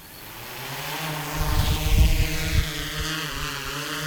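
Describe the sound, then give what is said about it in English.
A Noble County Sheriff's Department drone, flown by Deputy Brandon Cordes, buzzes with a steady, high, harmonic propeller whine that shifts slightly in pitch, fairly loud, with a brief rumbling swell partway through and no voices. “When Noble County Sheriff's Deputy Brandon Cordes puts a drone into the sky, he gets a perspective his department didn't have before.”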